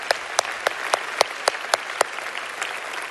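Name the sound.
audience cheering and applauding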